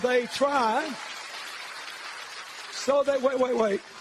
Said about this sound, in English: Do you understand? And that audience clapped. That's a liberal audience.